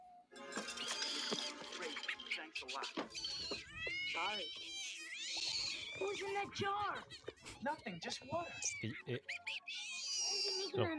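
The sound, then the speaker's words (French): A small furry film creature coos and chirps in high, warbling, sing-song squeaks, a steady string of cute vocal sounds running throughout with brief pauses between phrases. “Il y a pas de chat. Du coup. Non. Et du coup, c'est bien Gremlins. Oui. C'est, en fait, c'est Mogwai, puis Gremlins.”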